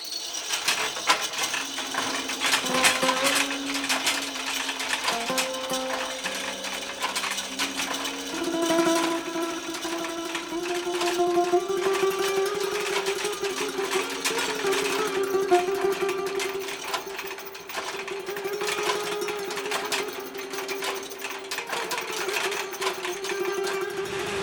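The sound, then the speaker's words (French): A sewing machine runs steadily without thread for the whole stretch, its rapid clattering rattle continuous and fairly loud, with a droning hum underneath and no voices. “À l'oreille, on entend s'il y a un problème, s'il y a un nœud, s'il y a quelque chose, si le fil est cassé, que ça continue à tourner sans fil, on l'entend, ça. Le son est différent.”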